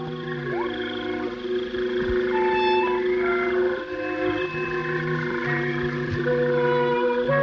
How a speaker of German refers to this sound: Die abgelegene Villa von Lord und Lady Farnsworth liegt in nächtlicher Stille. Nur das Quaken der Frösche dringt vom Teich hinauf in das Schlafzimmer des älteren Ehepaars.